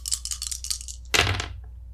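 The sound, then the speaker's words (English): Dice rattle briefly in a hand, then clatter loudly onto a hard tabletop in one rolling burst before settling into quiet; a heart roll in a game. “I get to reroll any dice. So here it is, a heart roll.”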